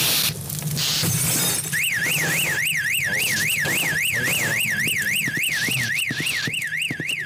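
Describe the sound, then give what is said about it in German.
A loud electronic fire alarm wails in a rapid rising-and-falling pattern, set off to end a simulated parking-garage test scenario, starting after a brief burst of crashing noise and continuing steadily to the end. “Und außerdem ist ein Feueralarm aus, damit dann das Szenario beendet ist.”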